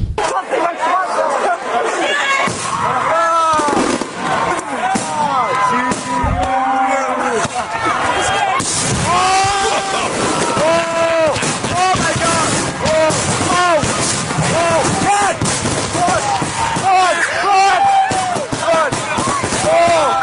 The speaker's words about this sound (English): Well, sometimes those computer programs that control the fireworks don't work, and they go a little haywire, and all of the fireworks go off at once. An awesome show. And this is what it sounds like.